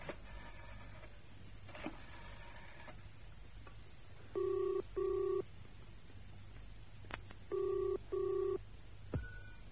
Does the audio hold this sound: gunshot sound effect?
no